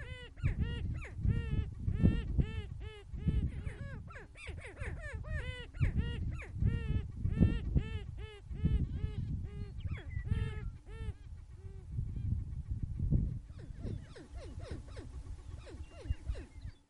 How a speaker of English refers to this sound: We leave you this Sunday morning at the Fort Pierre National Grassland in central South Dakota, where it's courtship season for greater prairie chickens.